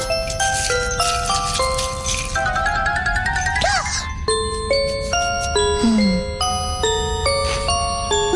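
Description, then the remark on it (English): An ice cream truck's bell chimes out a bright, tinkling melody of sustained stepped notes, playing continuously and fairly loud for several seconds with no one talking. “Okay, now you guys go play, and I'll ring my bell and drive by just like the real ice cream man.”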